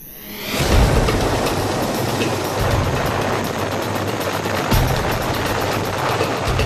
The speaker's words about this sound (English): It was codenamed Operation Lightning Thunder and saw helicopter gunship bombardments of LRA camps, followed by an assault by ground troops in the remote, heavily forested lands on the borders of Congo, Sudan, and the Central African Republic.